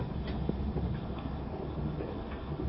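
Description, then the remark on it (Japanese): A steady low rumble fills the space, with faint rhythmic ticking and clicking like wheels passing over rail joints, heard inside a moving sleeper train bound for Sapporo, running between Noheji and Aomori in Aomori Prefecture, Japan, at moderate, even volume. “列車は青森県の野辺地青森間をただいま走行しております。”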